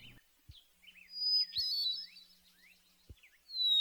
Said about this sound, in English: The hermit thrush's song tends to start with a slow, single note, followed by a chiming warble. This is repeated on different pitches.